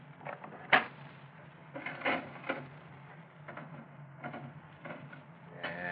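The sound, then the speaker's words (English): A slot machine is played in the back room of a bootlegging joint in Fresno: a sharp mechanical clack, then a run of whirring, ratcheting rattles and clunks from the spinning mechanism, with a low hum beneath. “He's out in the back room now, playing the slot machine.”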